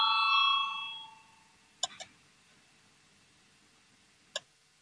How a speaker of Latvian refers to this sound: Lūdzu zvanu, balsosim par 217. deputātes Goldbergas priekšlikumu